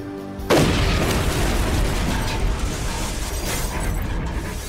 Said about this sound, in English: The explosion hit the wall of the tower with a massive force, destroying everything around it.